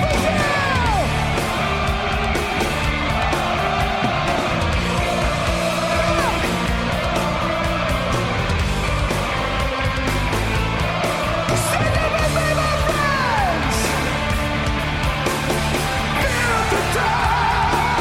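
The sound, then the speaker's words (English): A huge crowd at a metal band's live show at Rock in Rio roars continuously, with yells, whoops and rising shouts layered over a dense, loud wall of cheering that barely lets up. “Their live shows are impeccable, and the crowd response equals that, as shown by this clip from their live show in Rock in Rio.”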